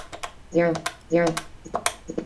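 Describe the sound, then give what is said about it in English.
Quick taps of buttons on a phone keypad being dialed, sharp clicks in an uneven rhythm, with two short bursts of the phone's spoken voice feedback sounding between the presses. “I can either pick a receiver to switch to the receiver, then I will hear the voice feedback for the receiver, but or I can start dialing just like that.”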